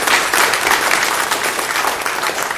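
A church audience at a Sunday morning service applauds together to welcome a newcomer, steady crackling handclaps at an even, fairly loud level for a few seconds with no one speaking over them.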